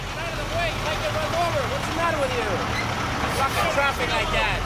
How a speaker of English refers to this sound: It's 5 a.m., and it's still dark out here at the San Francisco Wholesale Produce Market. There's a stampede of trucks and forklifts carrying loads of fresh fruits and vegetables to and from the warehouses.